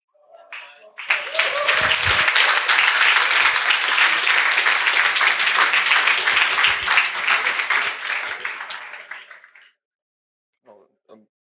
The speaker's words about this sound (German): Super. Ein Applaus für PyCash.